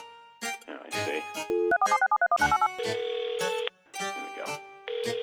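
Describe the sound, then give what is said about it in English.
A voice imitates a phone being hung up: a run of quick beeping button tones, then a steady humming dial-tone drone, mixed with vocal bursts, loud. “Tell me if this sounds like a phone hanging up.”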